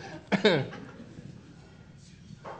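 A single abrupt sneeze from someone in the audience, a loud, harsh burst lasting about a quarter second, followed by a low murmur of background noise and a faint breathy sound near the end.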